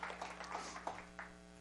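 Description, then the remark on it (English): Faint, scattered applause from a small audience for the elementary school kids who won a 5K race against all the other elementary schools in Hoover: brief uneven claps fading within a couple of seconds over a steady low electrical hum. “Our kids won, so give our kids a hand.”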